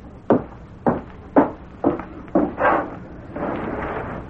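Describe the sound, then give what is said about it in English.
Five soft, evenly spaced raps on the window of a construction superintendent's office after dark, each a short dull tap, followed by a low rustling noise with no voices. “He gave the impression of waiting for something, and when a soft rapping was heard at the window, he jumped nervously to his feet.”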